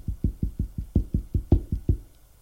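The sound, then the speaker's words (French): A quick, steady run of about eleven dull knocks on a wooden bedroom door, fairly loud, each thud evenly spaced before the sound stops and a short quiet follows. “On frappe à la porte de la chambre.”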